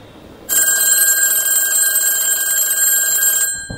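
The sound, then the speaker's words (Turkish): A telephone on a side table rings loudly and continuously, its bright electronic trill starting abruptly and sustaining for about three seconds before cutting off, while the caller waits at his office desk for it to be answered. No one speaks. “Telefonun diğer ucunda Sedat ofisindeki masasında oturmuş Mine'nin telefonu açmasını bekliyor.”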